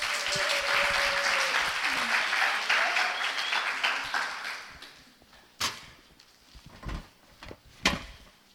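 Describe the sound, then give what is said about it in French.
Sustained audience applause with a few cheers rises for about four seconds, then fades into scattered claps and a few sharp knocks or thuds. “On applaudit et on encourage.”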